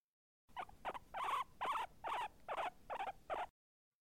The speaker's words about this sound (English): What's that noise? Is something in the crawl space? You dang raccoons! Get out of here! Stop gnawing on that damn mummy and let that poor bastard rest in peace!